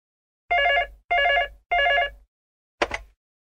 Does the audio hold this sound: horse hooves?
no